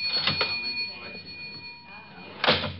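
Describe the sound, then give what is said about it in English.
A cash register drawer being worked, with a couple of quick metallic clacks early on and a louder sliding clunk near the end, over a faint steady hum. “I got in the cash register.”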